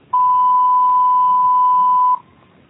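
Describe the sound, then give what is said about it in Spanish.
A single steady electronic beep tone, the voicemail signal to start recording, holding one clear mid-high pitch for about two seconds at even loudness before cutting off into near silence. “Por favor, deje su mensaje después del tono.”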